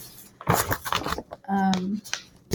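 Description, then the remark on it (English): Paper pages rustle and flip in short, crisp bursts, broken by a brief hummed voice in the middle before another quick page turn, as someone shuffles through the pages of a book of image-and-text entries, looking for a favorite entry. “Here, I'm shuffling because I'm looking.”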